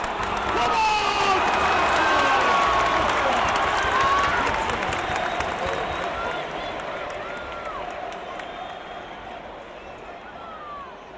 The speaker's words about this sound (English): What does football sound like? Football is a roar. It is chanting and singing, clamour and yelling.